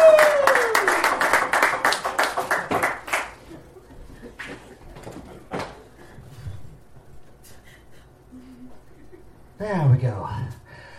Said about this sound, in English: Give a round of applause for all the previous mad scientists that we had before you.